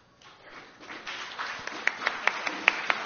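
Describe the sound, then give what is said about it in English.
A small group claps for a person introducing themselves, beginning as a soft scattered patter that gradually swells, ending with several crisp, evenly spaced claps standing out above the rest. “Okay, I hereby decree that if there's a pause, we will clap one by one for people rather than waiting for the whole group.”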